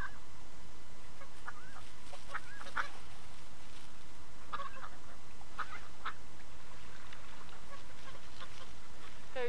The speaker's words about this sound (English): There's some white ones over there. What are they? They're all swans over there.